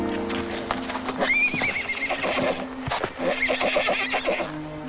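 A horse whinnies twice in high, wavering calls, with hooves clopping on hard ground underneath and a steady low hum in the background. Nobody speaks.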